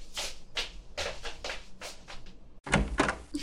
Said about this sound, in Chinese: 哇，是弟弟回来了，赶紧去开门。